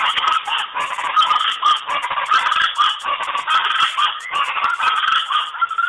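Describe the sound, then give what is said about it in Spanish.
Raucous guacharaca (chachalaca) birds call in a loud, nonstop chorus, their harsh, rhythmic cackles overlapping for the whole stretch with no talking. “Aquí el trino del ave llamada guacharaca.”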